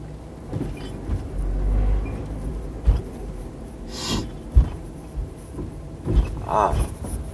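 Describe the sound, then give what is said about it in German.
A car drives through busy road traffic beside a truck, a steady low engine rumble with occasional thumps and bumps, plus a brief higher whine or squeal near the end from other vehicles. “Sorry, jetzt muss ich ein bisschen auf einem LKW aufpassen. Hier ist ein bisschen Trubel.”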